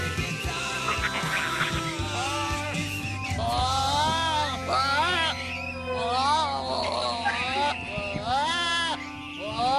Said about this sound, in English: Oh my God! And now the goat's mad.